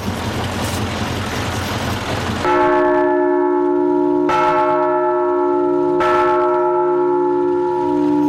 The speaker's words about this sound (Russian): Их осветил митрополит Екатеринбургский и Верхотурский Кирилл, первым ударивший в новый колокол, после чего и все желающие также смогли попробовать себя в качестве звонарей.